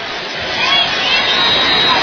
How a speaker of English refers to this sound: Crowd gets up. You hear it in the background.